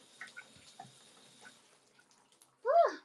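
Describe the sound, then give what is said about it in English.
Scattered faint water drips plink after shower water is turned off and the flow stops, then a person lets out a short, loud vocal exclamation near the end. “All right, turning the water off.”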